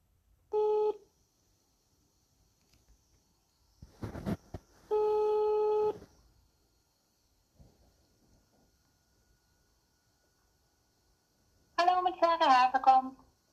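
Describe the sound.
Telephone tones of a call being placed: a short electronic beep, a brief burst of dialing noise, then a steady one-second ringing tone, followed by silence until a voice briefly speaks at the end.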